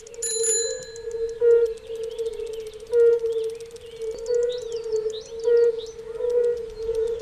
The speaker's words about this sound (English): But then we've got the red-bellied toad here as well. I know that just because it's such a peculiar sound that you can hear when cycling along the dike.